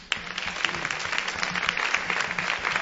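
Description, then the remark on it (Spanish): A crowd at a reunion of the Asociación de Caminos applauds steadily, a dense wash of many hands clapping at an even, fairly loud level throughout, with faint voices mixed underneath. “para que mande un aplauso que está allí.”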